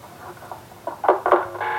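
A telephone receiver is hung up at the end of a call recorded by police: a faint rustle, then a few clattering knocks in quick succession and a brief ringing tone at the end, with no voices.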